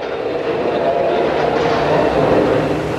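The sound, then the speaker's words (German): A steady, loud rumble of a train standing at a station platform, a dense low drone with faint rattling. “So kommen Sie auf den Bahnsteig. Der Zug steht schon da und die Postsäcke können gleich in den Bahnpostwagen gebracht werden.”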